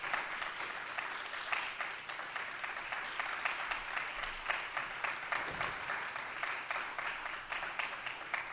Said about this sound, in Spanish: La soprano Marina Silva. Fuerte el aplauso para Marina Silva.